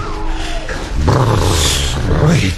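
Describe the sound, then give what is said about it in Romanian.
Wolves howl in long, wavering tones that slide in pitch, over a steady rushing noise like wind, on a harsh winter night in a fir forest, with a thick layer of snow covering the ground and the branches. The howls overlap and continue throughout without any speech. “N-auzi cum urlă lupii?”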